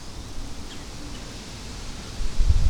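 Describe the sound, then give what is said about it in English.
Steady, soft wind hiss with a faint rustle through mostly leafless trees beside a creek, building to a low rumbling gust near the end. A faint high bird chirp briefly appears early on. No one speaks. “There's wind.”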